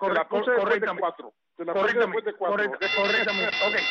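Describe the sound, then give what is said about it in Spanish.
People talk, pause briefly, then a bell sound effect rings out with a steady, bright, high tone that holds for the last second while a voice keeps talking under it. “Porque tú dijiste, ponme la campana de 3.”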